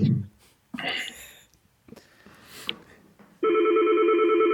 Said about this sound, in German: Ups, hier klingelt ein Telefon. Entschuldigung. Macht nichts. Ich versuche mal aufzulegen. Klingelt weiter.